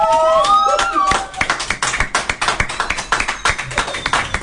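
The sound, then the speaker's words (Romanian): Brisk applause from a small group of hands, with rapid, uneven claps running steadily for several seconds, at a Radio Zoo prize announcement where the top prize, an apartment in Comfort City, goes to a family from Berceni. It follows a brief burst of sweeping, whistle-like tones at the start. “Băi, în momentul ăsta vreau să zic că familia din Colentina merită aplaudată pentru fair play.”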